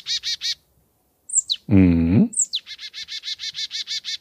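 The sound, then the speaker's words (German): A songbird calls: quick bursts of rapid chattering notes, a couple of sharp downward whip-crack-like whistles, and a harsh, buzzy call in between, then the steady chatter resumes. “Der klingt so ein bisschen wie so ein Peitschenhieb, stelle ich mir immer davor.”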